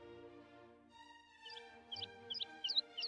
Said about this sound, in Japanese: 鳥飼ってるんだね。 ええ、可愛いでしょ？